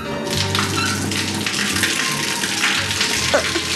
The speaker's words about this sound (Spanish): El sonido del agua que cae con violencia opaca sus sollozos.